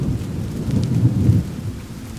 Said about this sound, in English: There is a steady rain overhead and deafening thunder.